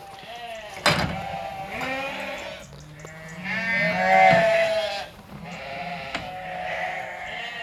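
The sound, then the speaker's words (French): Several Landes de Bretagne sheep, raised outdoors by a shepherd at the foot of the Ménézom at Dinéol, bleat in overlapping, wavering cries, one after another, loud, with a sharp knock near the start and a steady outdoor hum underneath. “Aujourd'hui, on va vous présenter les particularités du mouton des Landes de Bretagne.”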